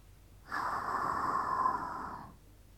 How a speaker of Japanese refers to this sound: どう？お口の濃い匂い、吐息の生温かさで、さらに匂い強烈になってるでしょ。